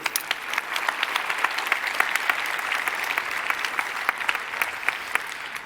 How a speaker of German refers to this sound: 5,9, dafür einen Applaus bitte.